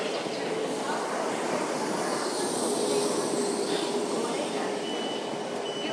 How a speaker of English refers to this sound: The 10:21. Oh dear, they really are running a bit late. Right, stand fast, please. Stand here. Good boy, we have a train. Is that splendid or what?